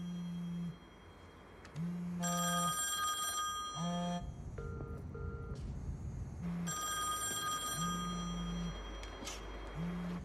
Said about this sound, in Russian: А почему она не берет трубку? Ты тоже не берешь? Ну, она же видит, кто звонит.